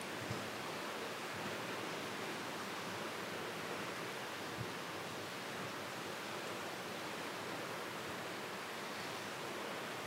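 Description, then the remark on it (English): Steady rainfall makes a dense, even hiss that holds constant for the whole ten seconds, with no clear individual drops standing out and no voices. “Allow the rain to begin to help you to heal the wounds of time.”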